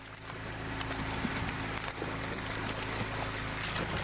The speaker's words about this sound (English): Now, well, I'm afraid it sounds like the sound of the flying variety of species of the Asian carp. The carp can grow up to 4 feet in length and up to 100 pounds, but some of the species are smaller, and when startled by noise like the